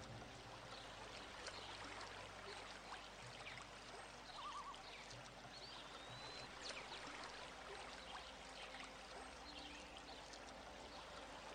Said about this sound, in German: Es weht ein leichter Wind. Du schaust auf das Wasser, das kleine plätschernde Wellen ans Ufer sendet.